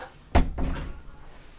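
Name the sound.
door being shut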